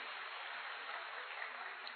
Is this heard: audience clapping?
yes